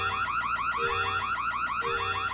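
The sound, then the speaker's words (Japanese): A loud electronic alarm blares continuously, its warbling siren tone cycling in rapid, repeating pulses with a low droning hum beneath, no voices present. “なんだ警報。”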